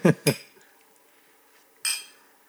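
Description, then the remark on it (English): Glasses of Templeton Rye whiskey clink together in a toast: two quick bright clinks back to back, then a third after a short pause, ringing briefly, with no talking. “so cheers, everyone. If you're drinking at home. Cheers. We're drinking, too.”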